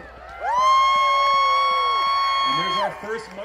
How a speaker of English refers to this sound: So when I'm on the starting line, you know, there's all these crowds cheering and the dogs are just like leaping and barking and they're so excited to go. And there's people with signs and there's all this excitement.